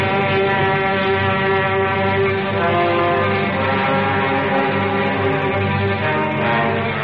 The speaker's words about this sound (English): Maybe it'll work and maybe it won't, but here at last they come. Here come the bombers!